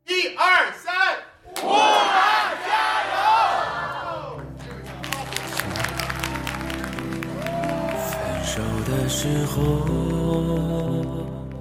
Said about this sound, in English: That chant there, Stay Strong Wuhan. We spoke with American Chinese comic Jesse Appel at a fundraiser for Wuhan, the city in quarantine in China.